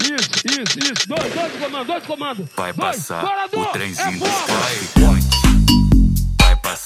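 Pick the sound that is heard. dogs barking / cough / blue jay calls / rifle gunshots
rifle gunshots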